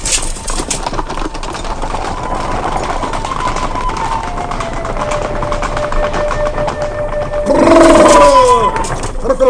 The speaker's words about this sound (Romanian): Ia, stați. Tăceți. Aud un fluier. Parcă și eu. Și chiar pe aproape.